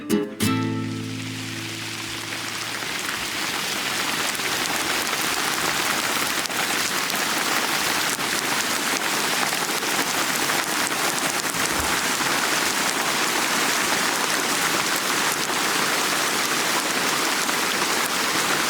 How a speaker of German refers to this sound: Ja, ihr hört es. Es regnet.